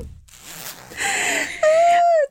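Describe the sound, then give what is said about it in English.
A hoodie zipper is pulled open in a rough, raspy stretch that ends in a loud, sustained tonal squeal, almost like a toot, before cutting off sharply. “Oh, I unzipped my hoodie. Could y'all hear that?”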